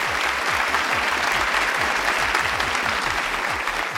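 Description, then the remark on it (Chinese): Steady, dense applause from an audience thanking colleagues from the after-sales department, many hands clapping at once in a continuous loud wash of noise that holds for the full four seconds without letting up. “在这里呢，让我们特别感谢一下我们售后部门的同事和伙伴们，掌声送给你们。”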